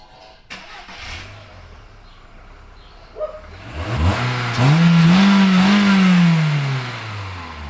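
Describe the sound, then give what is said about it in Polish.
A car engine cranks and starts, then revs up with a rising, throaty roar before settling back. The rough, rattly drone comes from a worn middle exhaust muffler that needs replacing. No one speaks. “Dobrze, pójdziemy zobaczyć, jak to chodzi.”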